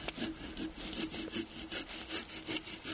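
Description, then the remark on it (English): A bow saw rasps back and forth through tree bark, making a shallow cut around the tree's circumference, in a steady rhythm of about a dozen strokes, each a bright, scratchy burst with no voices. “Esden makes a shallow cut with his bow saw around the tree's circumference.”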